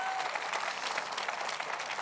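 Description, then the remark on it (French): An audience applauds steadily to encourage someone, a dense wash of many hands clapping at an even level throughout, with no voices standing out. “Ceux qui savent que c'est vrai, applaudissez pour encourager quelqu'un.”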